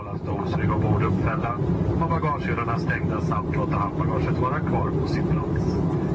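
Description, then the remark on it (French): A loud, steady drone of an airplane in flight fills the whole stretch, a constant engine roar with voices murmuring on top of it. “Nous prenons l'avion avec eux.”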